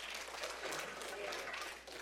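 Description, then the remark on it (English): An audience claps in a steady, dense patter of many hands, sustained for a couple of seconds at moderate level, with faint voices mixed in underneath. “Now be careful if you're clapping, because you're on the internet.”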